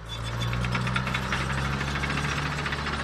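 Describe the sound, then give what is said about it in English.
A heavy diesel dump truck engine rumbles steadily, its low hum overlaid with a rapid mechanical knocking and clatter that continues without a break; the dump truck hauls away asbestos-contaminated soil in Libby during an EPA cleanup. “When it's detected, like around the ball fields and mine buildings, dump trucks haul away the contaminated soils.”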